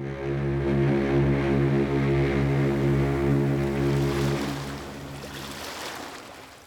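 A boat engine drones steadily and loudly as the boat sails at sea from the port of Marseille toward Barcelona, then fades into a broad rushing wash of water and waves for the last couple of seconds. No one speaks.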